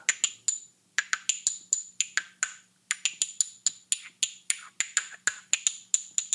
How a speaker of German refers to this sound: hat ja einfach nur durch das Öffnen und Schließen seiner Hand, in dem ein Stein lag, ich würde das gerne kurz mal versuchen nachzuempfinden.